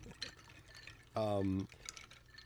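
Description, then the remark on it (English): A drink is poured into a glass, a brief half-second stream with a ringing tone that shifts as it fills, surrounded by faint background murmur. “So why don't we start off with a drink? Let's start pouring.”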